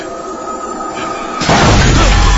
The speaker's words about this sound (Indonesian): Dan ketika itu juga besi-besi berjatuhan dan membuat suara yang sangat bising.